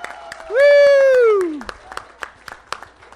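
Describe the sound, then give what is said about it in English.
An audience at a conference session in stateroom 3 claps in scattered, sustained applause, with a loud voice letting out a long falling whoop of cheering over the first half. “I want you all to all give yourselves a great round of applause for finding stateroom 3.”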